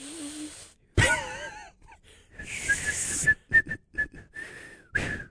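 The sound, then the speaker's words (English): Breathy, faltering attempts at whistling into the microphone in a studio: airy bursts with thin, wavering tones that break off repeatedly, a few short toots near the end. “Well, we're going to stop making people listen to us half whistle into the microphone.”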